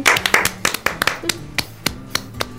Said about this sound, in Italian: Applauso!